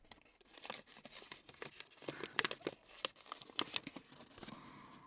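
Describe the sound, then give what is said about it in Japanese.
Origami paper crinkles and rustles, a run of crisp, uneven crackles and soft tearing-like rasps as a folded origami sheet is pulled open to finish an origami wastebasket, with no talking. “目をつけてから、きれいに開けたら、折り紙で作るくずかご入れの出来上がり。”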